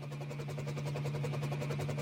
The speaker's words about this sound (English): Helicopter?